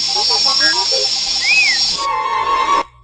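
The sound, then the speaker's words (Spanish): Chirpy whistling beeps of the robot Artu: quick warbling bleeps and a smooth rising-then-falling whistle over a steady hiss, ending in a held electronic tone that cuts off abruptly. “Bueno, ahí tienen qué manera de darle una personalidad al robotito a base de puro chiflido, ¿no?”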